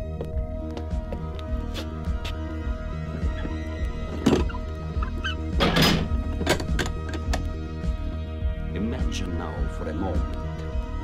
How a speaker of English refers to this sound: The door of the crypt is shut.